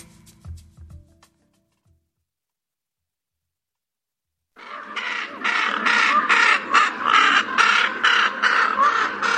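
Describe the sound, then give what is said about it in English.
Loud, harsh raven calls start after a few seconds of near silence, a rapid string of rough croaking caws repeated in quick succession, continuous until the end. “Ravens, they're normally thought of as birds of bad omen, think Poe.”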